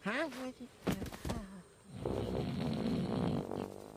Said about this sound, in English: Sid jerks as Manny snores.